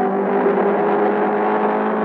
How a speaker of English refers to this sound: You're listening to the car that won. The Ford Mark IV, a $100,000 car